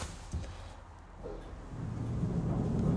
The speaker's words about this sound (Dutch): De deur gaat dicht. En waarschijnlijk klinkt dit heel erg hol. Ik sta nu in de lift. Je hoort hem piepen en kraken.